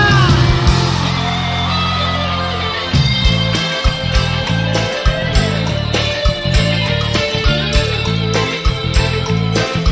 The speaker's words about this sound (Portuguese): grito da galera.